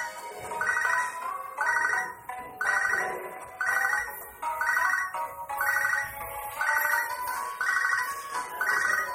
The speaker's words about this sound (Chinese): 自行车就在那，不是自行车，那个电话就在那滴滴响。